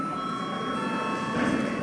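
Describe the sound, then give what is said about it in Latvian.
An electric bell rings steadily for about two seconds to call a session break at a sitting of deputies. It is a sustained, shrill tone with buzzing overtones and no pauses. Nobody speaks over it. “Godātie kolēģi, ir pienācis laiks kārtējam sēdes pārtraukumam. Lūdzu zvanu.”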